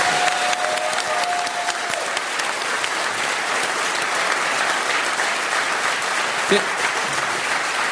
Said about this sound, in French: Et en plus, je voyais pendant que vous l'applaudissiez, moi qui suis à 50 cm de lui, il est très ému par vos applaudissements.